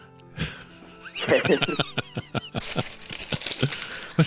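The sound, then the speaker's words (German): Crinkling and rustling of a package of Danish butter cookies as someone eats from it, a steady run of sharp crackles and pops that grows busier and louder partway through, with no voices. “Was raschelt denn da bei dir im Hintergrund”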